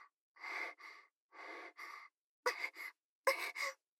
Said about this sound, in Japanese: すみません。シコシコって言いすぎて、ちょっと息切れしちゃいました。少し休憩です。